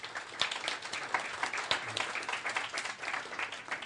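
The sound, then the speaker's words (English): An audience at a Commonwealth Club meeting applauds a speaker from Planet Labs, a dense spatter of many hands clapping at once, fairly soft overall with a few sharper claps standing out, sustained for several seconds without talking. “Give him another round of applause if you like.”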